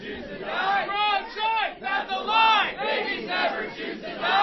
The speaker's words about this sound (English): The crowd was at capacity during the city council meeting, and at several times, protesters shouted over each other.